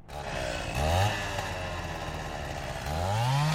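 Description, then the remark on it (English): A chainsaw roars steadily for several seconds, its engine pitch rising and dipping as it bites into hard material, with no voices. Soldiers are using it to break down the walls of a military base, Camp Price, in Helmand Province, Afghanistan. “Chainsaws are the soldiers' latest weapon in Helmand, here being used to break down the walls that once protected them.”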